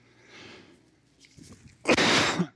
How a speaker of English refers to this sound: Oh, I coughed right into it.